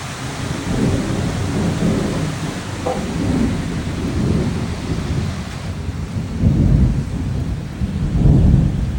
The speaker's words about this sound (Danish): Og så trak det sig sammen. Og så gik, og så gik det bare amok med regn og lyn og tordenbrag af en anden verden.